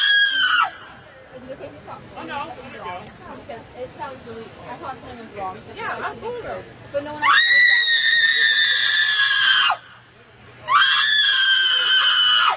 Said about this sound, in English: I don't think it's appropriate to have her screeching, though.